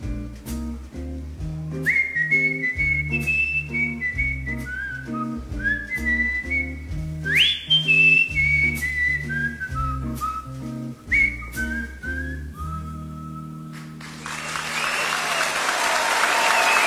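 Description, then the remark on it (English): A live band plays a melodic tune with steady bass at a 1985 concert in Germany; near the end a large crowd bursts into loud, sustained applause that swells and keeps going as the music fades out. “Listen to that crowd.”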